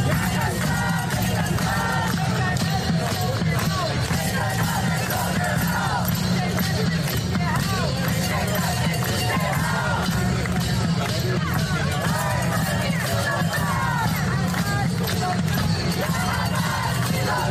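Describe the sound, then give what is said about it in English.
A large outdoor crowd at a protest gathered outside a university fills the scene with dense, continuous voices, scattered shouts and whoops rising above a steady roar of cheering and chanting throughout. “They congregated outside of university to, I guess, promote Hamas and cheer on the death of Israeli soldiers.”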